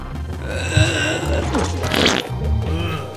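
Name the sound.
fart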